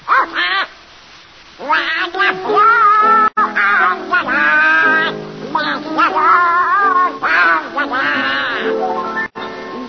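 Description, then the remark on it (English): A raspy, nasal cartoon duck voice quacks its way through a song on a radio broadcast, with wavering, warbling pitch in loud, continuous phrases broken by short pauses, clear for the full length. “Donald Duck, you've denied being the worst singer in the annals of radio. All right, prove it. Sing.”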